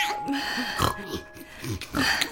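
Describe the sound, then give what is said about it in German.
A voice makes a string of nasal grunts and snorts like a piglet, imitating a baby boy grunting like a pig, several short bursts in quick irregular succession with a raspy, snuffling texture. “Aber jetzt grunzt doch nicht so. Das schickt sich nicht für kleine Jungen.”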